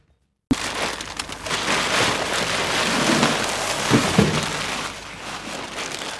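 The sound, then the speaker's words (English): Continuous crinkling and rustling of plastic body bags containing the remains of people killed in the Ukrainian town of Bucha, a dense steady hiss of movement with a few sharper crackles near the end and no voices. “The rustling of body bags containing the remains of people killed in the Ukrainian town of Buche.”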